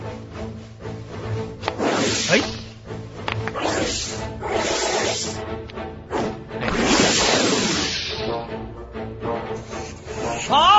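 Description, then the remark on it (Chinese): A giant snake hisses in repeated loud, breathy bursts amid swooshing, rubbing movements of a struggle as a man fights it, with no talking. “对对，是那条大蛇，它又出现了，在那儿。”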